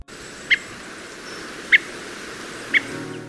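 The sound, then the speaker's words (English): A redwing thrush gives three short, high, bright notes spaced about a second apart, each standing out clearly above a steady, low outdoor hiss. “Listen out for their song like this.”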